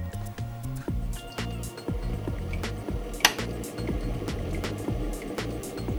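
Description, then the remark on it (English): Water runs steadily into a kettle, a gurgling, sloshing stream with small clinks and splashes along the way, moderately loud, with no one talking. “This is the kettle. Put some water in it.”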